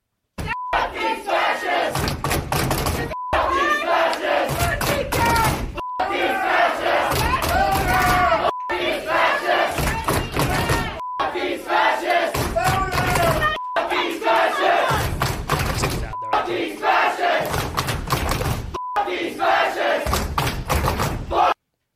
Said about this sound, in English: The radicals pounded on the table and shouted, "F you, fascist," over and over.